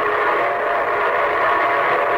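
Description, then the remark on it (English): A locomotive's whistle sounds in one steady, sustained, loud blast, holding its chordal tone without a break from start to finish: the signal an engineer blows when the train approaches railroad stations, junctions and railroad crossings. “Say, that's the signal a locomotive engineer blows when his train is approaching railroad stations, junctions, and railroad crossings.”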